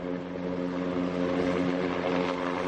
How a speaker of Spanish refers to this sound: De nuevo el sonido del helicóptero de salvamento marítimo.